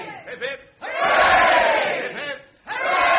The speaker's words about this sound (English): And from this lovely audience here in the Paris Cinema, Lower Regent Street, London, England, I think we might give them three cheers. So hip hip. Hooray! Hip hip. Hooray! Hip hip. Hooray!